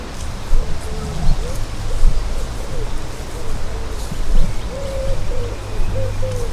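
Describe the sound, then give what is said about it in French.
A busy chorus of waterbirds along the Scarpe river, with ducks, gulls, geese and coots calling in repeated short squawks and honks over a steady outdoor rumble. “Si vous vous promenez le long de la Scarpe, vous entendez les sons de toute une faune : canards, mouettes, oies.”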